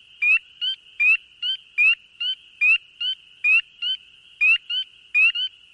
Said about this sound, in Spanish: Con ustedes, una rana preciosa llamada Pío de Primavera. Amiga mía, no sea tímida, cántenos algo.